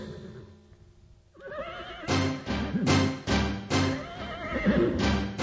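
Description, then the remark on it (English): A horse whinnies loudly, followed by a steady run of hoofbeats clip-clopping in a quick, regular rhythm, with no one speaking. “I think I'll get on my horse.”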